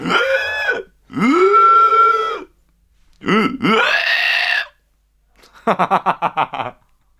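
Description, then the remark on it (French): A voice imitates a pig with loud, rough, drawn-out grunts and snorts, three long ones, then a quick run of about seven short choppy grunts to finish. “Ah, il était pas mal mon cochon, non?”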